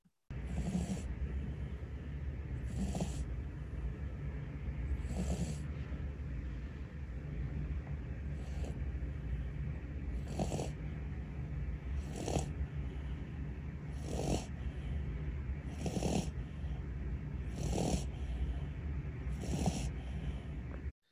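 A dog named Austin snores loudly and steadily like an old man, about nine rasping breaths at an even pace of roughly one every two to three seconds, over a constant low background hum with no talking.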